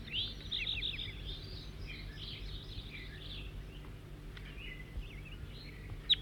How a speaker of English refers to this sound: Four, three, and back in song, trying to get the new bird again, who's giving loud flight calls occasionally.